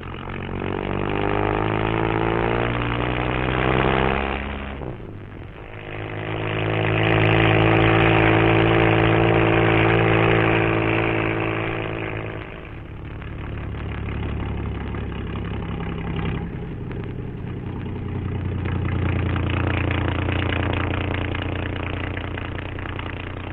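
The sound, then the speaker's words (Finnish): Heavy loaded trucks in congested traffic rumble past, deep engine drones rising and falling as each vehicle rolls by, loud and continuous with no talking. “Ruuhkaantuneet raskaskuormaiset autot tuossa juuri ajavat ohitsemme ja mekin pääsemme siis nyt jatkamaan hetkeksi keskeytynyttä matkaa.”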